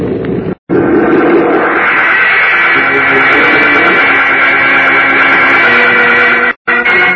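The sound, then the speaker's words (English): A loud, continuous rumbling roar, dense and grinding, as the earth splits open and swallows a huge plane. It runs for several seconds with a brief break near the start and another just before the end. “Amazed, Kent, Rev Peyton, and Jimmy look on as the earth splits open and the huge plane disappears.”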